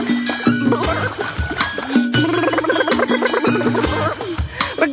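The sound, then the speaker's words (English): A voice makes repeated bubbly, gurgling blurp sounds, imitating an octopus, over a lively rhythmic music backing with steady low tones. “But octopus don't roar, they go blurp.”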